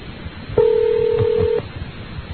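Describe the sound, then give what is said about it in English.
A single steady electronic telephone ring tone lasts about a second, clear, then stops with no answer, leaving only faint background hiss. “He may have unscrewed the light bulb that flashes when the phone rings.”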